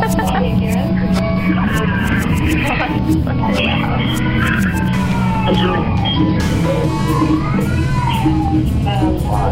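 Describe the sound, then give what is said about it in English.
Repeated drawn-out meows from a hurt cat, wavering and rising and falling in pitch, sound through a dense, steady wash of background noise that stays loud and unbroken throughout. “He's crying because he's hurt. He cries to show that he's there.”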